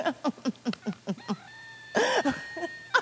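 A rooster gives a quick run of rhythmic clucks, then a drawn-out crowing call that breaks into a harsh, loud squawk before a few more clucks, with no talking.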